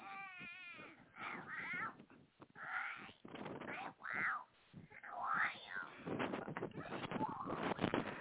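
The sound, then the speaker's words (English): A buzzard screeches and squawks over and over, harsh wavering cries, loud, filling the whole stretch with only brief gaps between calls. “The biting buzzard.”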